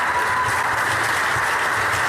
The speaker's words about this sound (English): The State Department is firing over 1,300 employees in a huge reorganization. Many were applauded as they left the building today.